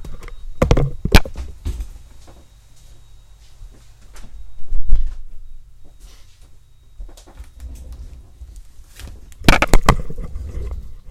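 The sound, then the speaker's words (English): A door is handled and pushed shut, with a few sharp wooden knocks and thuds spread across the moment, over a steady low rumble of a vacuum cleaner running in the next room. “At this moment, I wish to remedy closing the door so that the sound of the vacuum cleaner in the next room can be a bit further away.”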